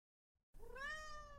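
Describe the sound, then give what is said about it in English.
A single cat meow, clear, rising then sustaining with a drawn-out tonal cry after a brief silence. No one speaks. “Oh, did you really just meow for me?”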